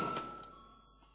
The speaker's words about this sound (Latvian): Lūdzu zvanu.